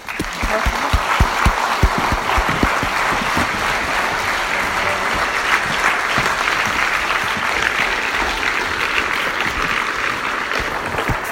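An audience claps steadily for several seconds, a dense, loud wash of many hands with a few sharper individual claps standing out at the start, and no one speaking.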